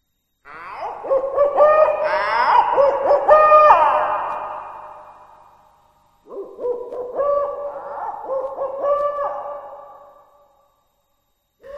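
An owl hoots in the distance in two long, wavering calls separated by a brief pause, each call trailing off slowly, breaking a deathly silence beside a grave under three large elm trees. No one speaks.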